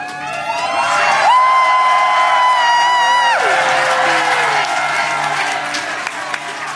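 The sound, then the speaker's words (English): A crowd cheers loudly and continuously, with whoops and scattered clapping; one voice holds a long, high shout over the noise before the cheering carries on. “Don't cheer for her.”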